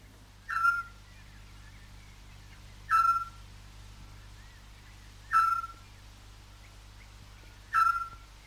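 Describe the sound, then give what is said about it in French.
A Eurasian scops owl, a small owl no bigger than a blackbird, calling at night: four short, clear whistled notes, evenly spaced about every two and a half seconds, standing out over a low, steady background hum. “Le petit duc.”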